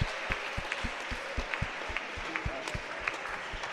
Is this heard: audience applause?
yes